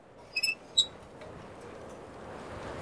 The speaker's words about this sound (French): Confidential Detective tourne sur le présentoir qui grince.